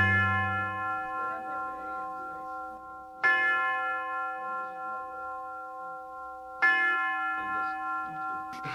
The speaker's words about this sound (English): The University of Detroit presents Ask the Professor. The University Tower chime rings in another session of Ask the Professor, the radio program on which you match wits with University Detroit professors